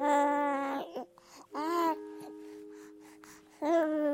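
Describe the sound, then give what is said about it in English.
A newborn baby cries in loud, piercing wails, three bursts separated by short gasping pauses, with no one else speaking. “I mean, I want to start this episode the way everybody starts.”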